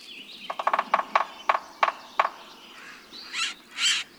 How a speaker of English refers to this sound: When you hear this drilling and cat-like squeal, look for a delicate woodpecker, a sapsucker. Depending on where you live, you're most likely to see one of three species.